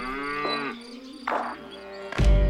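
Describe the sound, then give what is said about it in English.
A cow lets out one long, loud moo whose pitch bends partway through. It ends with a short burst of noise, and no one is talking. “Just a quick note, Mountain Fresh Dairy doesn't call it a drive-through window. It's a moo-through.”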